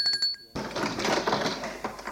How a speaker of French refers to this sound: En ville, elle rentre dans un immeuble. Au troisième étage, elle sonne à une porte.